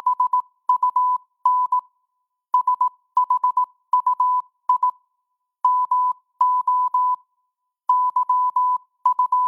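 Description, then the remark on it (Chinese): Morse code beeps of a ship's radio message sent by a steamship near the Flannan Isles on 15 December 1900, reporting the unlit lighthouse: a steady mid-pitched tone keyed on and off in quick dots and dashes, grouped into bursts with short pauses, clear, with no voices. “那时候船上那无线电不是语音啊，是摩斯码。”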